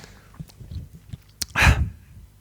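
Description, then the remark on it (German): A single sneeze, muffled and away from the microphone because the speaker took off a headset to sneeze, preceded by a sharp click and faint rustling handling noises. “Das war, ich musste niesen und habe dafür das Headset abgenommen.”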